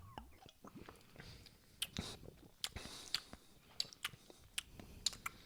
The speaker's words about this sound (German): Das ist ganz lecker. Schmeckt so ein bisschen. Herzlich willkommen zu den offiziellen Schmatze-Weltmeisterschaften.